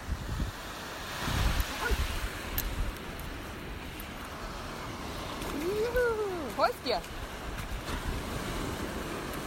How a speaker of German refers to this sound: Später schickte mir Anne Meeresrauschen mit Hund.